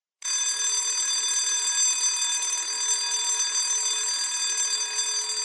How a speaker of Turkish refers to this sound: Duydunuz zilin sesini.